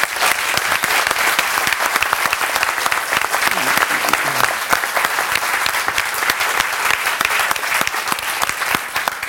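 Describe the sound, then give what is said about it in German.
Sustained audience applause at DAC 2023, thanking an interviewee after a live interview, a dense crackle of many hands clapping at a steady, fairly loud level for the whole stretch, with no voices rising above it. “Einen Applaus für dich.”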